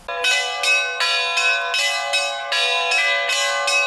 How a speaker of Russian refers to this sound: Колокольным перезвоном ржаксинская земля встретила правящего архиерея.